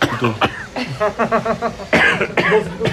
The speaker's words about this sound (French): Pourquoi on tousse ? Ça doit être le sésame ou la moutarde.